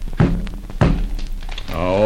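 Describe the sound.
Two dull, heavy knocks, about half a second apart, like raps on wood, a spirit's raps answering a question, two raps meaning no, followed by a voice starting to speak.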